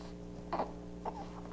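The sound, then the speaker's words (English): Two short, scratchy throat sounds from a baby, each a brief raspy vocal call from the back of the throat with lips shut tight, rather than crying, fairly quiet over a steady low background hum. “Little scratchiness in the back of the throat there.”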